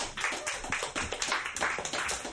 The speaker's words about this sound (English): Everyone, clap